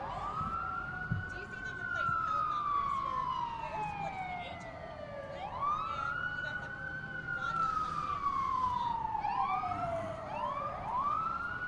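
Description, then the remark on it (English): A loud fire department truck siren wails in long rising and falling sweeps as the truck drives by, switching to quicker cycles near the end, over a steady rumble of road noise. “Somebody's driving by with their siren on. You have to wait a minute. It's a fire department.”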